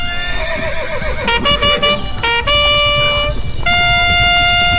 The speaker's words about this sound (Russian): Почту перевозили на лошадях и вот в таких каретах.